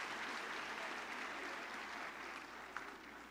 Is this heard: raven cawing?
no